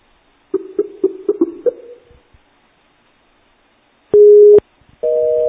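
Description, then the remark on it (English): A telephone busy signal: a steady electronic tone cuts in sharply for about half a second, then returns and holds. Before it, a quick run of short, stuttering tones fades out. No voices. “See that? They're on the phone.”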